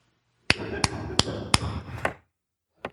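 hand clap

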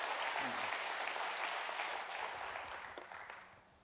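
audience applauding

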